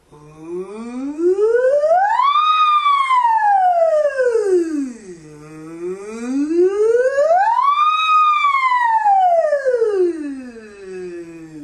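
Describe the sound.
In a voice exercise, a single voice imitates a siren, sliding smoothly from low to high and back down twice in one continuous breath, the loud wavering tone rising and falling slowly with no other sounds.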